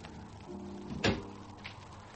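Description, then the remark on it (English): A terrace door swings shut with a single solid thump about a second in, over a low, steady background hum with a faint click shortly after. “Close the door.”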